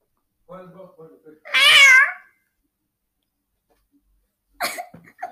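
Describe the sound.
A person imitates a cat with a few voiced meows, the middle one long, loud and rising, followed by a short pause and a brief final burst.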